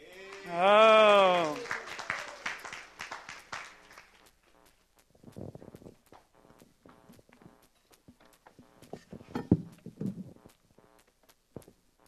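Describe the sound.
Applause from an audience rises under a loud voice for a few seconds, then thins into scattered, sparse claps and footstep-like taps that trail off.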